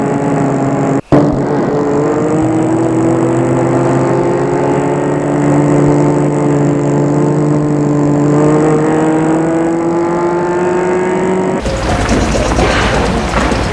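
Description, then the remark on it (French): A car engine hums steadily, its pitch drifting slightly as the car pulls in to park in front of the entrance of a small house in Vénissieux, then the engine sound cuts off abruptly near the end, leaving a brief noisy rustle. “Il va garer la voiture devant l'entrée de la maison.”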